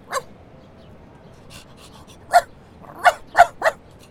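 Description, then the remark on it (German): A dog barks in short, sharp bursts: a single yap at the start, then a quick cluster of four barks near the end, over a low rumbling background with no talking. “Ja, du bist ja ein ganz ein süßer Hund.”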